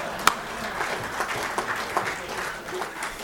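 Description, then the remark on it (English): An audience applauds Representative Benny Nogiak with a steady, dense patter of many hands clapping, fairly even in loudness with a few sharper claps standing out, and no one speaking over it. “That was my first applause line. How about a...”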